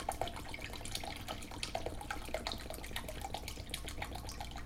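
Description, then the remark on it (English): Tea pours steadily from a quart container into a pitcher that is getting close to the top, a continuous stream of splashing and gurgling liquid with small bubbly spikes, lasting the whole stretch with no voices. “So, let's hurry and pour this in before our timer runs out.”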